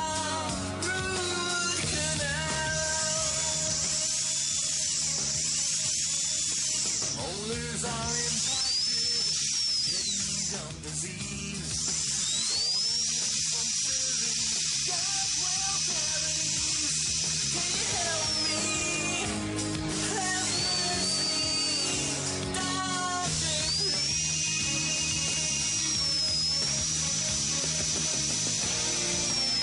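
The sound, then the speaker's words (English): A dental drill in a dental office whines in a high, steady pitch that repeatedly rises and dips as it speeds up and slows, running nearly continuously, with faint clinking and suction noise beneath. “I kind of get, you know, white knuckles when I think about, you know, the dental experience. This is it.”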